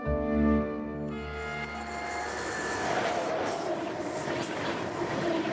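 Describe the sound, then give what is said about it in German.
A train runs along the rails. A brief tonal, whistle-like sound opens it, then a steady rumble of wheels with rasping, grinding metallic noise carries on to the end. “Mit dem Zug.”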